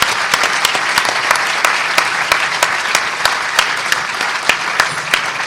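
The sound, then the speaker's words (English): An audience applauds steadily, a dense wash of many hands clapping with a few sharper individual claps standing out, holding at a loud, even level throughout without any voices. “Thanks for clap the hands for everybody.”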